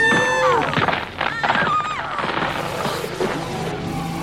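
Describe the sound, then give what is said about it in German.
A mountain monster runs in and smashes through a hut door with heavy thuds and a splintering crash, buried in a loud, dense rumble and wavering, sliding tones, with no voices. “Das Monster hat die Tür zerschmettert.”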